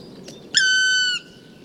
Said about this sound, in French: Le registre vocal du pic noir est varié, mais les randonneurs de montagne apprennent vite à le reconnaître.